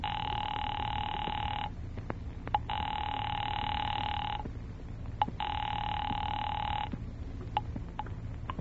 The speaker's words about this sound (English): Ringing Murray Hill 40098.